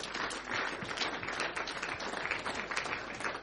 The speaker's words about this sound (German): Ein Applaus für die Menschen, die entschieden haben.